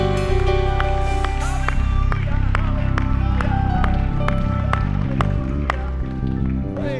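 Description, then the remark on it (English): An audience at a church service claps in steady rhythm over loud, sustained organ-like music, with voices calling out praise to God beneath the beat, continuous throughout. “Clap your hands, all ye people, and shout to God with the voice of triumph.”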